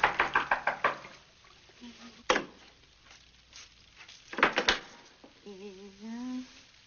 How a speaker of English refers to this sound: Hear me knocking?